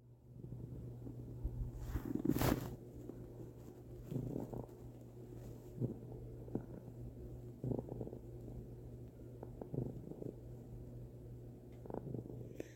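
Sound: cat purring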